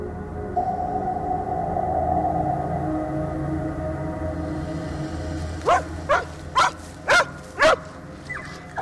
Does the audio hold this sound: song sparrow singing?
no